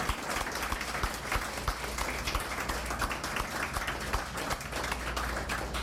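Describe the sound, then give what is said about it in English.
An audience at a poetry reading applauds the poets who read in the first round, steadily for about six seconds, a dense, even patter of many hands clapping at once with no clear rhythm, holding a fairly constant loudness throughout. “Let's also give all the poets who read in this first round a hand as well.”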